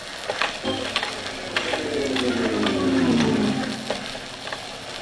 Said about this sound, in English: Get ready to lower the hydrophone. Ready to lower. Lower to 4,000-foot level.